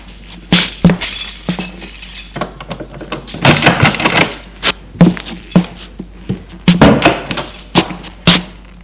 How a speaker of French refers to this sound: Au 2e étage, il prend ses clés et ouvre la porte.